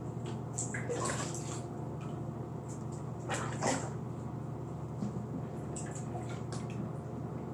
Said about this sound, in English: I've never done it in a bath before, so I'd like to see what it was like. I'm just taking water and running it over my breast.